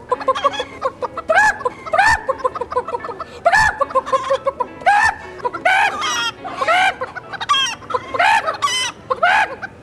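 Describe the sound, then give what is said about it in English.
A man's voice imitates a chicken, letting out a steady run of loud clucking bursts with rising squawky notes, repeated for about ten seconds without any words. “Yeah, because there is a whole part of this documentary where he is making these like really obnoxious and annoying chicken noises.”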